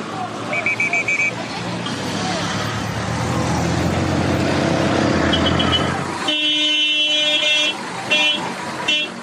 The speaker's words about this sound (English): Bhutan does, of course, have its traffic jams. But even these have their own individualistic style. And there seems to be a total absence of road rage.